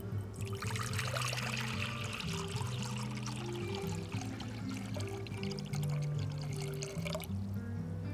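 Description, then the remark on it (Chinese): Hand-shaken milk tea is poured steadily into a cup at a milk tea shop, a continuous gurgling stream lasting several seconds with no one speaking. “好了，把奶茶倒进杯子里就大功告成了。”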